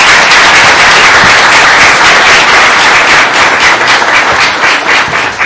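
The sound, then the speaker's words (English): A crowd in a church applauds a translator loudly and steadily, dense overlapping claps for several seconds without pause. “I would like to get an applause”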